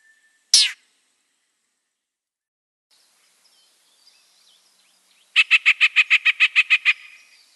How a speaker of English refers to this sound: Here are the little call notes at the end that get my attention to listen for the raspy sound of the chat.